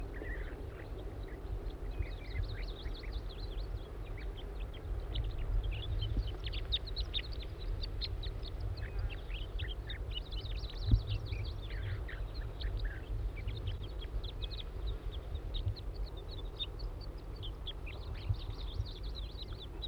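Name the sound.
juvenile bird calling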